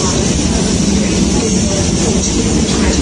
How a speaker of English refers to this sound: This train is formed of 4 coaches. The train now approaching Platform 3 is the 14:29 Southern Service to London Victoria. Mind the gap between the train and the platform. Please stand back behind the yellow line.